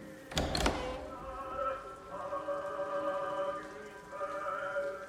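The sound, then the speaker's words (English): A sharp double click of a latch, then a long, drawn-out creak of a flat's door off a dimly lit corridor slowly swinging open, opened by a frail, elderly man, its groaning pitch wavering and rising again before fading out, fairly quiet. “Control, a frail, elderly man with a furrowed brow, opens the door and stares at Jim with suspicion in his eyes.”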